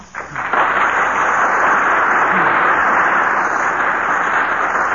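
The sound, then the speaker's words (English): The audience of the 39th annual dinner at the Mayflower Hotel applauds steadily. Dense clapping forms a continuous loud wash of noise that swells in the first half-second and holds evenly throughout, with no voices standing out. “The applause of this 39th annual dinner audience here in the Mayflower Hotel is more eloquent than anything I might say.”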